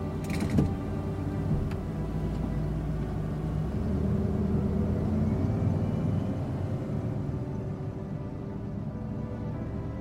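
A car engine starts with a brief clunk and settles into a steady low rumble as the car drives slowly through a gate, with faint metallic creaking from the gate. No voices.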